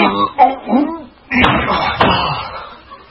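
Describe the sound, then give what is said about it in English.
A heavy desk being lifted and moved: a strained vocal grunt, then two loud wooden thumps about half a second apart, with a rumbling scrape trailing after. “Grab the desk.”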